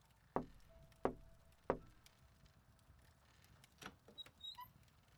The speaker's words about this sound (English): Soon, after you eat, there's a knock on your door, and Lady Luzon lets herself in.